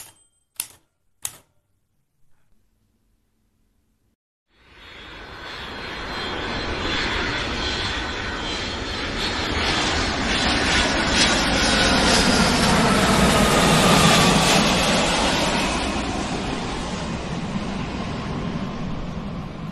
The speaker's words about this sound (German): Verschlafen wachte ein jugendliches Mädchen auf, als das Flugzeug, in welchem sie sich befand, gelandet war.